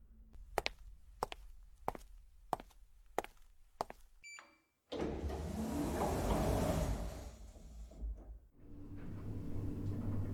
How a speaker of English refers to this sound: I need to find a place to park this truck.